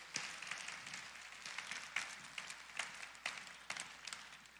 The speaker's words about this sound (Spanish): Un aplauso para ellos.